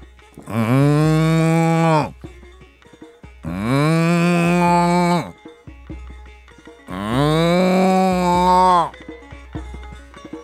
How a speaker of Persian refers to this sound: لیکن گاو تنها صدا کشید.